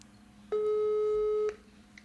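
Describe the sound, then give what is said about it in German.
A single steady electronic phone call tone sounds for about a second while a call is being reconnected, clear, holding one pitch with faint harmonics above it, before cutting off into a quiet line hiss. “Ich leg mal auf und dann kannst du gleich wieder anrufen.”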